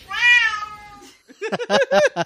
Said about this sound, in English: I got to ask you, do your cats sing on command?